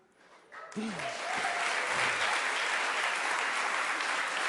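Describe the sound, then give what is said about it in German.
An audience bursts into sustained applause after a baptism. The applause quickly swells and stays loud with dense clapping, and a few brief voices or cheers are mixed in at the start. “Okay, das ist zwar super, aber können wir einen großen Applaus nach der 9. Person machen?”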